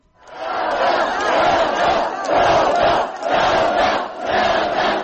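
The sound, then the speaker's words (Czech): A large crowd of more than 10,000 people chants together at a Saturday protest rally on Krajina Square in Banja Luka, in loud, rhythmic bursts, voices swelling and dipping in repeated phrases with brief pauses between, sustained throughout with no single speaker standing out. “Ambijent i poruke sa subotnjeg skupa u Banja Luci zabilježila je”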